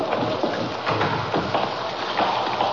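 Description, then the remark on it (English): Steady shower water runs and patters continuously, a dense hiss of spray with faint splashing, no voices over it. “Oh, I'm taking a shower right now.”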